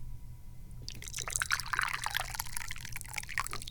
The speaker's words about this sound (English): And now we're going to pour some tea.